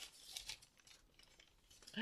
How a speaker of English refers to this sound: So I got you something from Home Goods. Yeah. Okay. So I have it. You can hear the crinkling of the paper. Ooh, spooky crinkling.